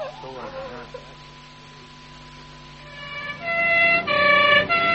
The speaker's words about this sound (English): It's an ambulance.